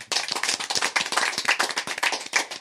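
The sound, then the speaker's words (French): Dense, steady clapping from several pairs of hands, bright and crisp, filling the whole stretch at a lively even pace with no voices over it, applauding a participant on a broadcast programme. “on peut l'applaudir.”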